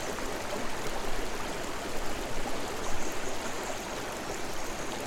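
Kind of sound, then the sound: nature, flowing stream water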